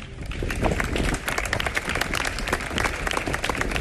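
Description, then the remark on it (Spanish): A crowd bursts into sustained applause ending a minute of silence held in front of the main town halls of the region, many hands clapping at once in a dense, steady patter that stays loud throughout, with no voices standing out. “Con estos aplausos ha finalizado el minuto de silencio que hoy se ha guardado ante los principales ayuntamientos de la comunidad.”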